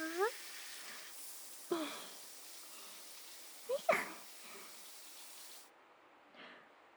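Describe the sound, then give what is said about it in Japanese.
A shower sprays in a steady hiss while water rinses leftover soap foam off someone, with a few brief soft vocal sounds on top; the spray cuts off shortly before the end. “じゃーん、シャワシャワじゃーん。”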